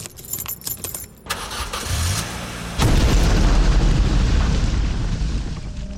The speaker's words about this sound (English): An explosion thundered throughout downtown Vegas. Four sticks of dynamite hidden near the steering column of Coulthard's car detonated with the turn of his key, transforming the vehicle into a twisted hulk of scorched metal